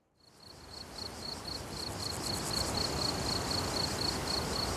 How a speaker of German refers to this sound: Ja, natürlich hat man im Kino schon mal Grillenzirpen gehört. Aber auf der Tonspur dieses Films hört man es anders, intensiver. Nicht als Hintergrundgeräusch.